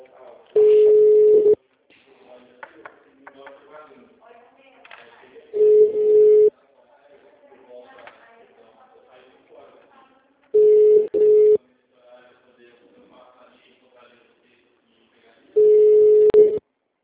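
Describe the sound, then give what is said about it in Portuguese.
A phone rings unanswered: four loud, steady one-second ringback tones, roughly five seconds apart, with faint, muffled voices murmuring in the gaps. “Não atende.”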